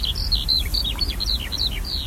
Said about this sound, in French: Un oiseau que tout le monde a entendu, je pense, enfin presque tout le monde, c'est l'alouette des champs, qui est l'oiseau qu'on entend chanter au-dessus des champs de blé en été.